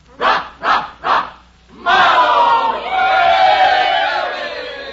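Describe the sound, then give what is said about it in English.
A crowd of students shouts three quick, rhythmic chanted cheers in unison ("Hey, hey, hey. Rah, rah, rah."), then breaks into loud, sustained cheering and hollering that carries on to the end. “Come on, everybody, a cheer”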